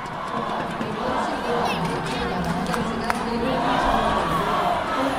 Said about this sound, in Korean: 연일 우리는 하나다, 통일 조국, 코리아 이겨라를 외치며 단일팀을 응원한 관중들은 단일팀의 첫 골에 기쁨을 감추지 못했습니다.